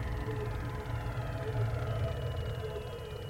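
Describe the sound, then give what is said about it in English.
A truck engine drones steadily as the truck heads up a mountain road in a snowstorm, a continuous low rumble with a faint tonal whine layered above it, holding at an even loudness throughout. “It's like a delivery truck heading up the mountain and a regular truck.”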